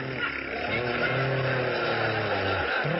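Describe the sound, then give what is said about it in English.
A person imitates a motorcycle with the voice, a steady buzzing engine drone with wavering pitch that rises and falls, held loudly and continuously for a few seconds. “That's supposed to be a motorcycle. We forgot to bring a sound man.”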